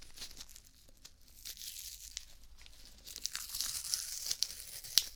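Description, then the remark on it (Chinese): Crackly peeling of medical adhesive tape, the newer kind stuck on after an injection, a steady sticky rasp that grows louder and denser in the second half, with a few sharp snaps near the end. No voices. “好，接下来呢，再准备一下，打完针之后贴到你手上的胶带，对，现在用的都是这种胶带了，跟之前的不太一样，之前那种成卷的，对不对？”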